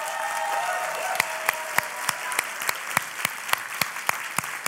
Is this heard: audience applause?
yes